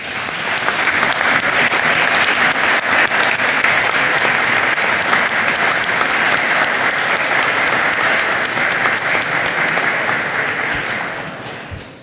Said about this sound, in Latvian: vēlos jūs informēt, ka šorīt mums pievienojies Melnkalnes parlamenta priekšsēdētājs Darko Pajovičs, lai klātienē vērotu mūsu sēdi un balsojumu par Melnkalnes pievienošanās protokolu NATO. Mēs ar aplausiem viņu sveicam.